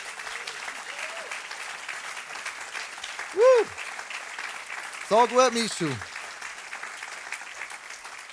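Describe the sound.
Steady audience applause fills the room throughout, a dense crackle of many hands clapping, with a man's voice speaking loudly over it near the middle.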